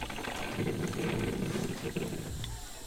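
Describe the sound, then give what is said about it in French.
A coffee maker brewing, with a steady low gurgle and bubbling hiss running continuously and fairly loud, with no talking. “Et enfin, le bruit de la cafetière.”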